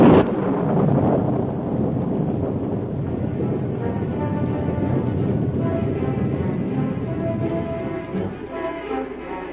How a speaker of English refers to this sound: Without hat or coat, unafraid of the storm